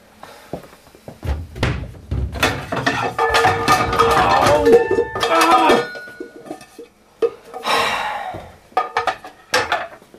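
Kitchen clatter as someone gets breakfast: repeated bangs and knocks of cupboards and doors, with ringing metallic clinks like pots and dishes, loud and irregular bursts over about ten seconds, no talking.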